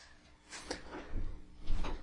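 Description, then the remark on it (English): A door is opened and then shut to put a cat out, with a soft creak and rattle followed by a couple of dull thumps over about two seconds. No one speaks. “And we need to put that cat out. Otherwise, it's going to be meowing at the door for several hours.”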